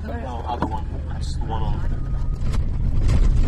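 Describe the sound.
A truck rumbles steadily over rough, bumpy beach sand in the Outer Banks on a tour to find wild horses, its low engine drone growing slightly louder with occasional jolts and clatters, while indistinct voices chatter over the noise.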